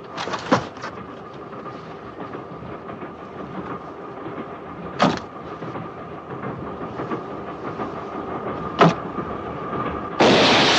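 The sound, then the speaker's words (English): A train rattles steadily along, heard from the train's corridor and carriage, with a continuous loud rumbling drone, a few sharp clanks punctuating it and a burst of hissing rush near the end. No one speaks. “When you're on the outside of the train and then when you're in the corridor of the train, you've got that loud rattle, rattle, rattle.”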